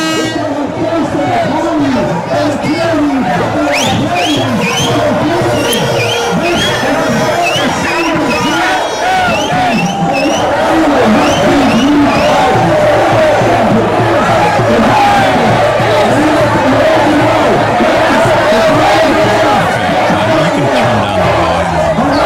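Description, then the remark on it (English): A dense crowd of protesters in Vancouver, moved to the front doors of a building to make noise, shouting and chanting together, loud and continuous, with overlapping yells and cheers rising out of the steady roar of the group. “We just took a little walk here now to the front doors to make a little noise.”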